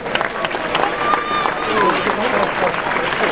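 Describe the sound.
An audience claps in a dense, steady patter for a few seconds, fairly loud throughout, with scattered voices and brief cheers mixed into the applause.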